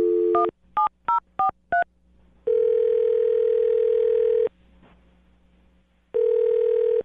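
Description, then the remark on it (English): A quick series of five beeping touch-tone keypresses dials a man's phone number, followed by two long, steady telephone ringback tones separated by a pause of quiet line hiss. “I'll dial his phone number right now and you can make your Awkward Tuesday phone call”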